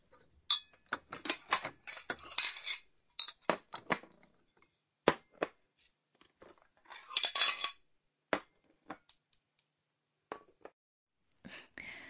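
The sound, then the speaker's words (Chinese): Bowls and chopsticks are set out on a table in a series of sharp clinks and taps, some in quick clusters, others spaced apart, with no one talking. “行了，别学了啊，现在帮妈妈把碗筷摆一下。”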